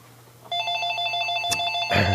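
A landline telephone rings with a sustained electronic trill, steady, starting abruptly after a quiet moment and continuing to the end with a brief click midway; the call is from a telemarketer.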